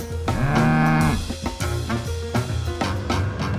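A cow gives one long, loud, low moo near the start, then rhythmic music with percussive hits takes over; no one speaks.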